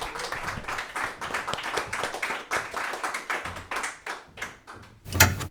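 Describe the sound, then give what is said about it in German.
An audience applauds steadily, many hands clapping in a dense, crackling wash that holds fairly even, with a brief louder swell near the end before it cuts off. “Applaus.”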